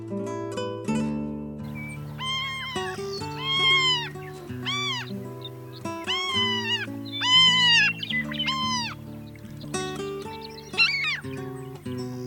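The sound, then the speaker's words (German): A Franklin's gull (prairie gull) on the prairie gives a rapid series of nasal, mewing calls, a dozen or so loud, arching cries in close succession, over a steady low drone in the background. “Das war die Präriemöwe.”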